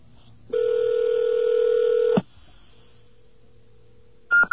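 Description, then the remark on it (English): Pager service beeps over a phone line after dialing a pager, signalling that it is time to enter digits on a touch-tone phone: a long, steady electronic tone lasting under two seconds, a faint lingering hum, then a short, sharp beep at the very end. No one speaks. “Okay, those three beeps mean it's time for you to enter something in your touch-tone phone.”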